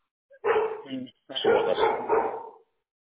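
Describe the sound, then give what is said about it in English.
A Labrador barks in two loud, rough bursts of harsh, voiced yelps over about two seconds, with a person's voice mixed in. “The female lab, she didn't hear nothing.”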